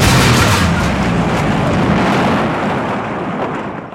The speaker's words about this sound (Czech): V tomto případě si hadice pomohla sama a narůstající tlak uvolnila nejjednodušším způsobem. Explozí.